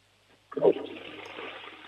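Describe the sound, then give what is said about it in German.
A toilet flushes with a sudden loud whoosh at about half a second, then settles into a steady rushing of water that continues to the end. “Das ist ja eine tolle Klospülung, die hat man super gehört.”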